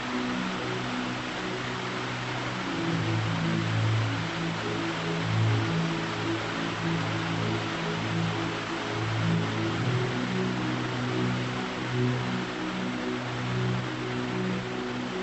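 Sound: heavy rain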